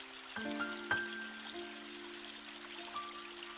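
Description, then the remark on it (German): Soft, steady burble of flowing river water, joined by a few sustained, chime-like ringing tones that start and fade over it; no one speaks. “Und so ging sie durch den Fluss.”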